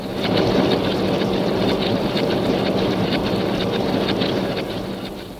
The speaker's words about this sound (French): Alors les puissantes rotatives se mettent en branle, débitant et pliant le journal au rythme de plusieurs dizaines de milles à l'heure.